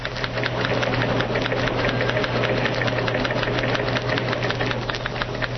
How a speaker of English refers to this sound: Let us turn on a microphone in the newsroom and hear the clatter of typewriters as news programs are rewritten. Again, you will hear in the background Press Association teletypes.